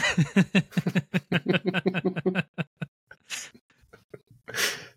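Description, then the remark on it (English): A quick string of rapid voiced, laugh-like pulses, then a pause and two harsh, breathy coughing bursts, the last one loud and rasping. “You're coughing.”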